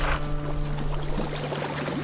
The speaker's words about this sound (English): Of all the sounds that John Muir describes in his many pages, I noticed that quite clearly the sound of water attracted his attention most.